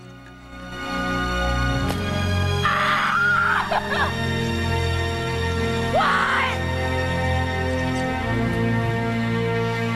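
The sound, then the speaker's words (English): A woman screams in anguish twice, a longer drawn-out cry followed a few seconds later by a shorter one, both rising over a loud, steady droning background. She is in a field with her fists held to her head, screaming up at the sky. “Running wildly through the field, she clenches her fist, holds them to her head, and screams up at the sky.”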